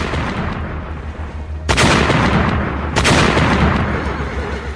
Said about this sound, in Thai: จากนั้นจึงมีพระบรรทูลให้ทหารขึ้นประจำเชิงเทินบนป้อมมหาชัยแล้วให้ระดมยิงปืนใหญ่ออกไปพร้อมกันค่ะ